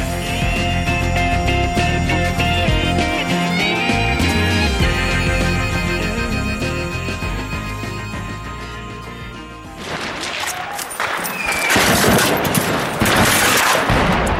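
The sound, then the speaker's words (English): Bursts of rapid gunfire crackle over a loud, busy background as rebels seize a Syrian government checkpoint in Daraa, on the border with Jordan in the south of Syria. The shots come in quick volleys, some sharp, with a harsher stretch of heavy firing near the end. “Gunfire there. Rebels seizing a government Syrian checkpoint in Daraa on the border of Jordan in the south of the country.”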